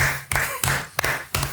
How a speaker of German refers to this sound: Das ist ja mal Applaus wert, Alter.